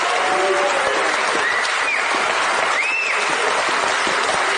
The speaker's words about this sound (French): Et donc le public applaudit.